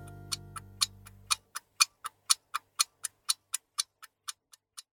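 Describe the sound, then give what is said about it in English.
A clock ticks steadily and evenly, around twenty sharp, crisp ticks in quick succession, with a faint low hum at the start and nothing else. “I hear with my little ear something that ticks.”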